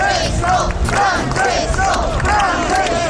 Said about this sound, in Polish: Chwilę wcześniej, na mniej więcej minutę, pokazał się w oknie szpitala ku radości tłumnie zgromadzonych wiernych, którzy tak wywoływali papieża.